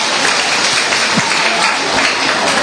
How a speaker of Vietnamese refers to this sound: Rồi cho một tràng pháo tay thưa anh chị.